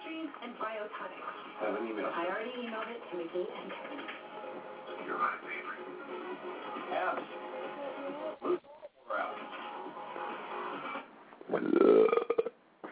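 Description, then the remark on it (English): A loud, drawn-out, low-pitched burp erupts near the end, following a stretch of muffled, indistinct voices and background noise. “Nice burp.”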